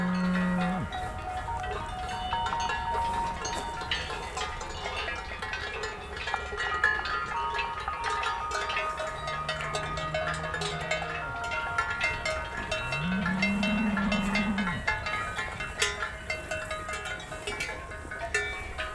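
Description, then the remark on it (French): A herd of cows moves past with many cowbells clanking continuously in overlapping, irregular rhythms, while several low moos rise and fade nearby. No one speaks. “Tout le troupeau de vaches gasconnes mélangées avec des chevaux remonte sur les crêtes.”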